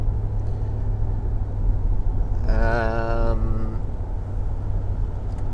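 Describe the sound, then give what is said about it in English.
A small truck drives along on a rainy Monday morning as its driver heads home after a night shift, with a steady, low engine rumble filling the cab throughout, loud. A short voiced sound briefly rises over the drone partway through. “We're driving along in a little truck with a big heart.”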